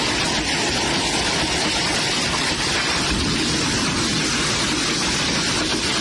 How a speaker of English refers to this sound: Resident Sandra Ryder pulled out her phone to record as the hail pelted her home.